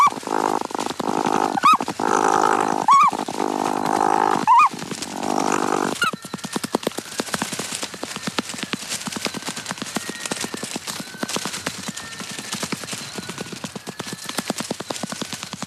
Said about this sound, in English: And I'll just leave you with this little bit of flipper slapping.